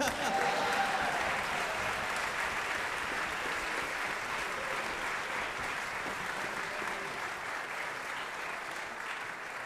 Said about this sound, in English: It comes to that time where we have to give … more applause.